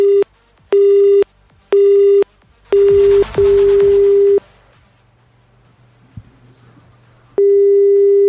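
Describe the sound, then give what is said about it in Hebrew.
A telephone line rings in short, evenly spaced electronic tone bursts, loud as if heard through the receiver, on a call to an ambulance company in Hadera, followed by a quiet gap with faint line noise and another tone starting. “הנה עוד טלפון, אולי עוד אחד צריך שם צבע, רגע דחוף.”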